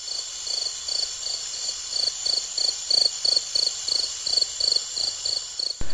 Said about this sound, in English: Some nights the old man wakes up and then says, "It was only the wind in the chimney." Or a cricket chirping.